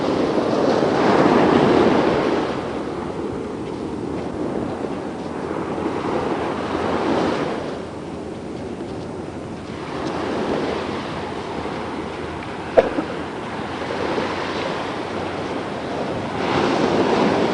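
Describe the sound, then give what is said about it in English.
Pacific Ocean waves surge and break on a shore in slow, rolling swells, a steady roar rising and falling every few seconds, fairly loud, with a faint sharp click near the end. “Yeah, although the Pacific Ocean is trying to power, they are not afraid.”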